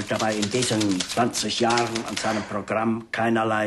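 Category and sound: household object, typewriter typing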